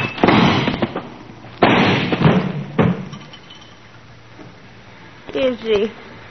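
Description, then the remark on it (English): Three loud, sharp gunshots crack out in quick succession, one hitting a man in the shoulder, each leaving a brief rumbling decay, followed by a short burst of a voice speaking near the end. “No, you hit him in the shoulder.”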